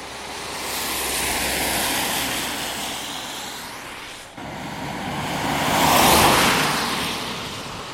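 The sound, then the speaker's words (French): A car swells in and rushes past on the road, its broad whooshing noise rising to a peak near the end before fading slightly, with no voices present. “Il y a une autre voiture qui arrive, mais elle est dans le mauvais sens.”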